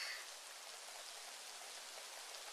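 Steady rain falls in a dense, even hiss that fills the high range, soft overall with no pauses or voices, like a continuous downpour; the rain was not in the weather forecast.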